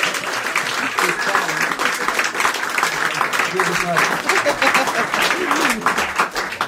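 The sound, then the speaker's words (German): A concert audience applauds a drummer steadily for several seconds, a dense wash of many hands clapping at an even, sustained loudness, with a few voices faintly audible beneath it. “Geben Sie mal diesem Schlagzeuger nochmal einen extra Applaus, der ist heute von Bad Buchau hergefahren, sonst aus Biberach,”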